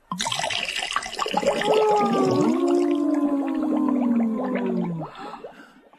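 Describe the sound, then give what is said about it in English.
Sheep dip is poured in a steady, gushing stream into a water tank for about five seconds, with resonant, shifting tones ringing under the splash before it tapers off. Fairly loud, with no talking. “Oh, let's pour it into this water tank.”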